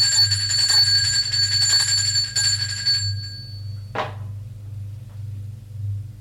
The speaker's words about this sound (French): qui sonne à la porte.